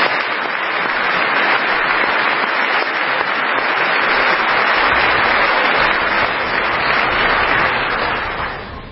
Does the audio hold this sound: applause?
yes